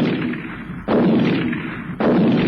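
impact, shotgun blast

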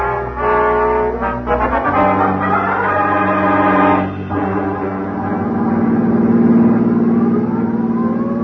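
vehicle, police car siren

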